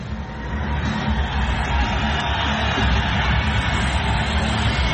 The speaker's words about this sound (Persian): اما مهمترین نکتهش تشویقی بود و استقبالی بود که از تیم آمریکا به خصوص کاپیتان این تیم جردن باروز انجام گرفت. یک ویدیوی هست یا اگه موافق باشی ببینیم این ویدیو رو از تشویق تیم آمریکا و ورزشکارانش، بعدی صحبت میکنیم راجع بهش.